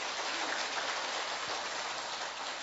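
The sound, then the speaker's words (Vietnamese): A big round of applause from a crowd, a dense, steady crackle of many hands clapping at once, loud and sustained throughout with no voices over it. “Xin mời, một tràng pháo tay thật lớn thưa anh chị em.”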